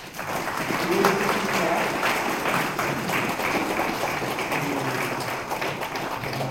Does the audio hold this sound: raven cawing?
no